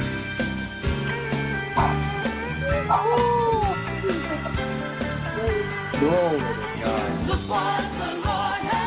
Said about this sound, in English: I know this is going to sound really weird, but as I'm praising the Lord, and if you heard the dog barking in the background, I was like waving him to come over because he was getting excited because I was getting excited.